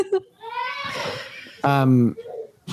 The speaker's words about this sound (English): Sorry, my baby's screaming.